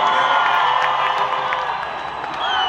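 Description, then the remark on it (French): A festive crowd of Armenians celebrating independence in a historic square cheers and shouts continuously, with folk groups from different provinces moving through it; a dense wash of many voices with bright whoops and cries rising above the steady roar, loud throughout. “Des groupes folkloriques venus de différentes provinces sillonnent la foule.”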